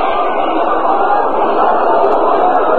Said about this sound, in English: O'Connell is hitting .260 on the year. He has 26 hits and 100 at-bats. One home run and seven runs batted in. Nice round of applause for him here.